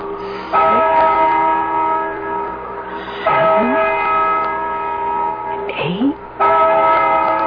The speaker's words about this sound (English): Listen to that bell.